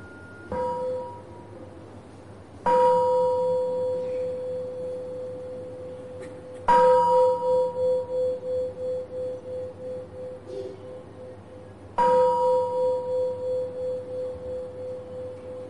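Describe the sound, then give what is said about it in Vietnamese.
A mindfulness bell is struck four times, the first a softer invitation, each strike ringing out with a clear sustained tone that slowly fades with a gentle pulsing shimmer. No one speaks. “Đó là chúng ta thực tập tiếng chuông chánh niệm.”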